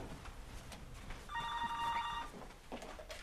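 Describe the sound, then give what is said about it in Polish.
A telephone rings once in a steady electronic trill lasting about a second, clear, against faint background noise, in Poznań. “O, telefonuję.”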